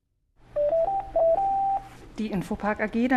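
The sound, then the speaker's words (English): A telephone at Infopark, a web services company in Berlin, gives a short run of clear electronic tones, stepping up in pitch for about a second and a half, then a person starts talking over a low background hum. “The phone's been ringing a lot recently at Infopark.”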